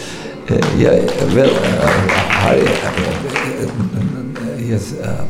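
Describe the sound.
An audience breaks into steady applause after a brief quiet moment, dense clapping sustained for several seconds at a fairly loud level, with some murmuring voices mixed in.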